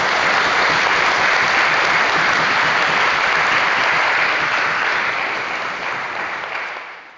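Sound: audience clapping loudly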